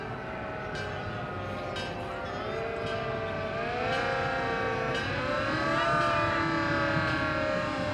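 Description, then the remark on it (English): An old-timey fire truck coming by blares its horn continuously, a loud, droning multi-tone wail that slowly bends upward in pitch over a rumbling engine, growing slightly louder toward the end. “I gotta say, that is the most dystopian fire horn I've ever heard in my entire life.”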